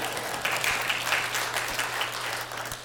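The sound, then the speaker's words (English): A church audience breaks into steady applause, many hands clapping together in a dense, sustained patter that holds at an even, moderate loudness for a few seconds with no one speaking. “Sure, you can clap if you want.”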